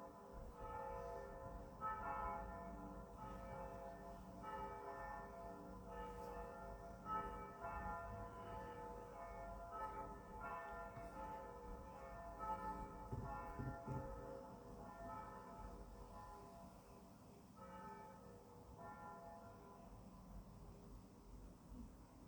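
Church bells ring out in a steady, overlapping peal, their strikes blending into a continuous rich clang that stays fairly loud and even for the whole stretch, with no voices.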